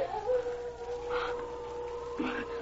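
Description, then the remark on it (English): A faint, drawn-out wolf howl in the early Arctic night as the wind rises, holding one long mournful tone, with a couple of brief rougher bursts rising over it. “That's a wolf.”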